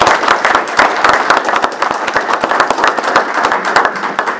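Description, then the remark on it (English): A room full of people applauds steadily, dense overlapping claps sustained at a fairly loud level throughout, with no speech over it. “one more round of applause for Jim”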